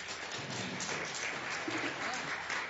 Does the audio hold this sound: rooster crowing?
no